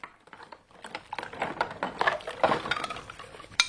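Washing up dishes in a sink with only about 2 inches of water: a steady run of light clinks and clatters as dishes knock together, uneven in rhythm, bright and moderately loud, with a sharper clank at the end and no voices.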